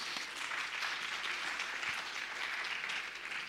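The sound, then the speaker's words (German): Sustained audience applause for two masons, a dense crackle of many hands clapping steadily for several seconds with no break and no talking over it. “Ein Applaus für unsere zwei Maurer.”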